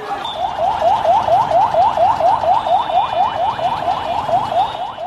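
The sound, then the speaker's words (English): A car alarm wails in fast, repeating rising whoops, about four per second, loud and steady over a constant bed of street noise in the capital Dhaka, Bangladesh, as army units patrol streets lined with burned-out cars and ransacked buildings. No one speaks. “This is the sound from the capital, Dhaka, as army units patrol the streets lined with burned-out cars and ransacked buildings.”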